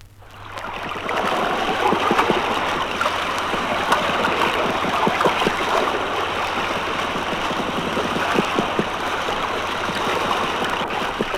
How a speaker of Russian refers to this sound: а на следующий день там же произвели запись при волнении моря 4 балла.